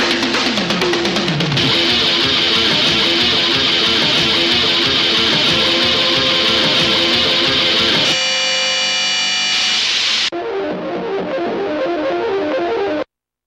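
Loud, dense experimental music full of distorted, noisy textures and processed effects, shifting abruptly in timbre partway through before cutting off. No voices.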